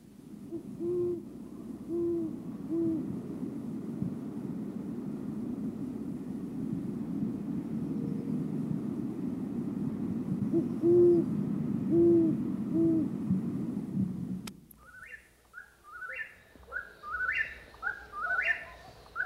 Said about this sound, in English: There is something ominously haunting about the sound of a great horned owl.